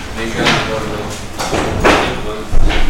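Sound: door being closed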